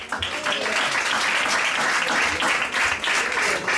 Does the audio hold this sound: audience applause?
yes